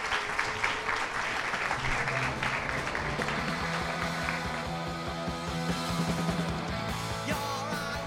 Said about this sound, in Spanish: Muchísimas gracias y un fuerte aplauso para ella. Muchas gracias.